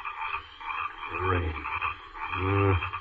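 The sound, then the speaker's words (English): Frogs croak in two loud, drawn-out bursts with a steady chorus of calls behind them, brought up by the rain, with no voices present. “These eternal frogs will drive me mad.”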